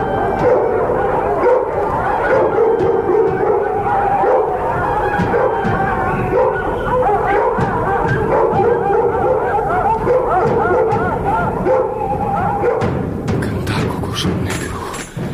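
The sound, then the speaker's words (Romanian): A pack of dogs barks, yips and howls together in a loud, continuous chorus for the whole stretch, with no talking over it. “Pisicile să țipe, cocoșilor, cântați, cântați, cântați, arhanghel, voi câinilor, îi lăcrați.”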